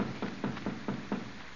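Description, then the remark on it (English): Five evenly spaced knocks on a back door, firm and dull with a low thump to each, rapping in a steady rhythm and then stopping. No voices. “Somebody at the back door.”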